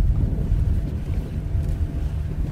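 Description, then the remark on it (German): A colourful wooden pirogue being pushed with all their strength into the sea through the shallow surf by a fishing crew while strong wind roars across the microphone, a steady, heavy low rumble with water churning and no voices. “Mit aller Kraft schieben sie die bunte Piroge ins Meer.”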